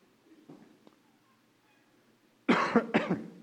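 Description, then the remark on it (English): After a stretch of near silence, someone breaks into a loud burst of coughing, three or four harsh coughs in quick succession. “Just started coughing.”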